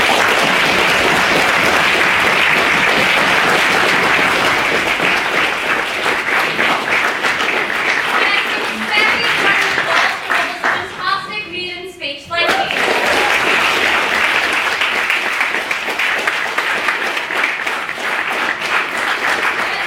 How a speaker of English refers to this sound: First of all, we've had four maiden speakers tonight, so I think they deserve another round of applause. They've been absolutely brilliant tonight,